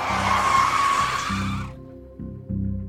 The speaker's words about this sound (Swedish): På avfarten mot Karolinska kör BMW:n om den vita bilen, bromsar in och ställer sig på tvär.